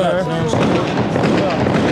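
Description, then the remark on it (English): Gunshots crack in the background, a dense, rapid run of sharp pops filling the whole two seconds, with voices talking over them. “You hear the gunshots in the back, so y'all see what's really going on, you know what I'm saying?”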